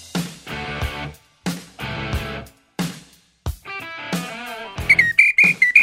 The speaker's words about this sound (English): Yeah, I'm going to come back each time today here. You're going to get tired of my whistle.